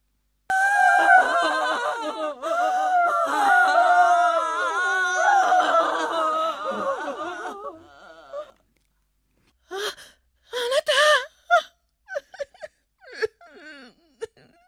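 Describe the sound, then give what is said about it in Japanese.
Several mourners wail and sob loudly in a long, overlapping lament for about eight seconds, followed by a pause and then shorter bursts of crying and gasping sobs. The mourners are distraught at the house of a family whose daughter has died. “ついてみると、誰も彼も取り乱し、大声で泣きわめいたり、弔いの笛を吹いたり、大変な騒ぎになっていた。”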